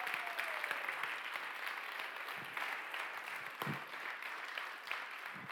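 Sustained audience applause, a dense, steady wash of many hands clapping at a fairly even loudness, with a few sharper claps and faint cheers poking through.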